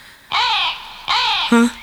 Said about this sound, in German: Was war das? Das war nur ein Vogel. Hoffe ich jetzt mal.